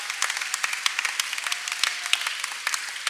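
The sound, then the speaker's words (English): Steady applause from a crowd welcoming a leadership teacher as he comes up to speak one morning, with dense overlapping hand claps forming a bright, crackling wash at a moderate, even level throughout. “And so would you give him a big round of applause as he comes this morning?”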